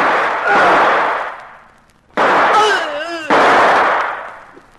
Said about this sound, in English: you shot both of them and knocked out Waltham. Well, I had the advantage of surprise. Plus the .38 they didn't think I had.